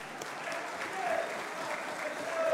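Steady audience applause, a dense wash of many hands clapping continuously at an even level, swelling slightly toward the end, with faint crowd noise mixed in.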